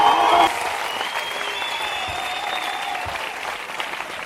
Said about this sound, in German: Das, meine lieben Zuhörerinnen und Zuhörer, ist ein Beifall-Soundcheck. Klingt skurril, macht aber unglaublich viel Spaß. Spätestens bei 10 Punkten, wenn nur noch frenetisch geklatscht wird und jeder gebannt das einsame Mikro auf der Bühne anstarrt.